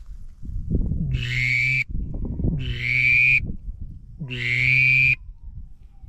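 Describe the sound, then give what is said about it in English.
A duck call blown by an adult, humming into it, to mimic a drake mallard: three raspy, buzzing notes, each under a second, with a low reedy drone and a nasal edge, spaced by short pauses, no talking. “And for the Drake Mallard, my dad's gonna be doing, because it's kind of hard for kids to do.”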